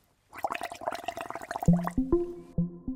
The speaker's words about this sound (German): Stoßen Fische vielleicht doch einfach Luft aus unter Wasser und macht es dann nicht einfach irgendwie blub, blub, blub, blub, blub, irgendwie so? So wie das jetzt hier mit unserem Trinkhalm ist?